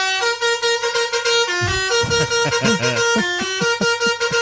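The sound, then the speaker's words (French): A bus horn gives a last honk goodbye to loved ones at departure at noon on 8 August, blaring loudly and continuously, holding a steady harmonic tone with brief wavering pulses, alongside engine rumble and some background noise. “Dernier coup de klaxon pour dire au revoir aux proches.”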